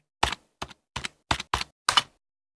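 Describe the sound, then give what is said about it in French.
Six separate crisp keystrokes on a computer keyboard as someone presses reset, tapped at an irregular but steady pace with short silent gaps between them and no voices. “Mais non pas à moi crétin sur le clavier. Ah ok, alors reset. Bon, laisse-moi faire.”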